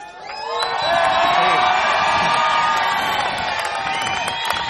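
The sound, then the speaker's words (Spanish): A large group of people standing at the front shouts together in a loud, sustained roar, many voices overlapping in a continuous cheer that holds steady for several seconds and fades slightly at the end. “Entonces, primero, grito de los legales, los que están aquí adelante.”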